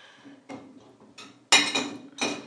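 dishes clattering

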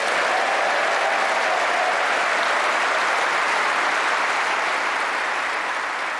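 crowd applauding a speech

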